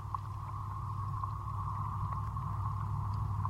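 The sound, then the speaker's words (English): A steady, low rumble of traffic going by fills the whole stretch, joined by a constant mid-pitched hum and faint scattered crackles. No one speaks. “You can also hear traffic going by.”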